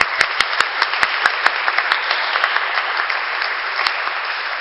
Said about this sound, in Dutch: Nou, nogmaals een applaus voor Emmanuel Rutten.